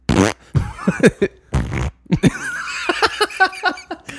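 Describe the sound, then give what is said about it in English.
Several short, sputtering fart noises burst out in quick succession, fairly loud, followed by a stretch of voiced, wavering sounds like giggling or squeaky vocal noises. “I want to know who did the fart sound.”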